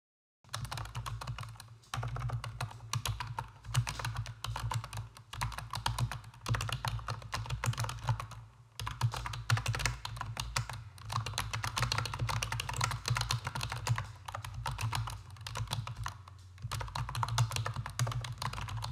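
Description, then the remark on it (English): Continuous typing on an On Gaming keyboard being reviewed, a dense stream of quick clicky keystrokes with brief pauses, over a steady low hum throughout. No one speaks. “As you can see, the sound of this keyboard is really good for the price of it.”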